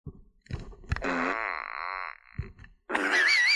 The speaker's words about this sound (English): There was a fart emoji and a rainbow fart emoji. Oh, it's a rainbow fart.